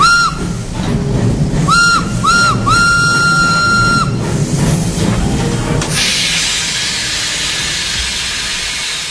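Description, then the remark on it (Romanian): A steam train pulls into the railway station in Iași: three short whistle toots and one long held blast ring out over a low, rumbling chug, followed by a loud, steady hiss of escaping steam. “Am ajuns în gara din Iași, frate, să coborăm.”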